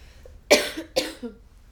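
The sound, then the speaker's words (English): Two sharp, harsh coughs in quick succession from a person having a coughing fit, fairly loud, with a brief raspy tail after each and no talking around them. “Not the best time for a coughing fit.”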